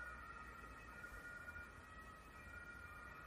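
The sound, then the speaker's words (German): Emergency vehicle sirens wail steadily and without stopping, a continuous tonal drone over low traffic rumble, with no talking. “Mensch, hörst du die Sirenen? Das ist ja Wahnsinn. Das hört ja gar nicht auf.”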